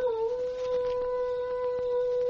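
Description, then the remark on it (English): A man, as the Lone Ranger, imitates a wolf's howl as a signal to Tonto after moonrise, in one long, steady, sustained tone that dips slightly at the start and then holds level, fairly loud, with no other voices. “As yet unaware of Tonto's plight, he signaled for the Indian to join him, imitating the howl of a wolf.”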